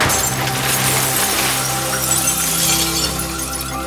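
A helmeted man holding a hammer runs and jumps through a shop display window with headless mannequins in tuxedos; glass shatters in a loud, sustained crash, with bright shards ringing and clattering steadily for several seconds. No voices are heard.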